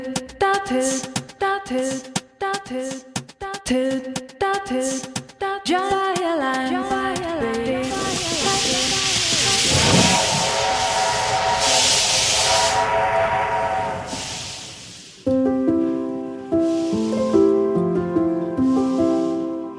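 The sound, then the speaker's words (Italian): A steam train, the one featured in the programme L'Ombelico del Mondo, lets out a series of short, chord-like whistle blasts, then a long, loud hiss of escaping steam, followed by more sustained whistle tones. “Questo suono invece è molto familiare a chi ascolta L'Ombelico del Mondo, perché in un bel momento del programma spunta il nostro treno a vapore.”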